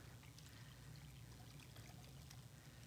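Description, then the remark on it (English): Liquid pours steadily into a bowl for a few seconds, a faint continuous trickling splash over a low background hum, with no one speaking. “It's no longer an empty bowl, right? It's now filled with Christ's blood.”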